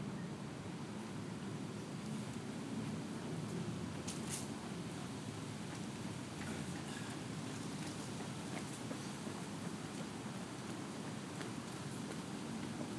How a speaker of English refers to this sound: There's a very slight breeze blowing, but we're protected from it here. You can hear the trees rustling above us.